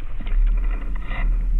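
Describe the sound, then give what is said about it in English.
A sturgeon purrs underwater: a steady, low, rumbling drone that holds at an even loudness for over a second, with a faint hiss above it and no voices. “And they even purr.”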